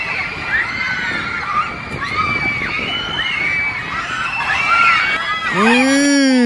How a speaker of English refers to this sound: These are not a cave full of bats screaming. These are … fans and all women.